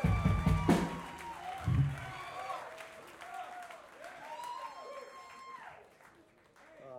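An audience applauds a band's rhythm section, dense clapping from a crowd with scattered cheers and whistles rising over it, loudest early on and gradually thinning out by the end.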